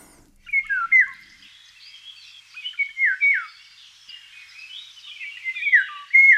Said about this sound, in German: Das ist ein Pirol. Und das klingt immer so ein kleines bisschen tropisch. Also man fühlt sich so in die Tropen versetzt, nach Afrika oder Richtung Südamerika.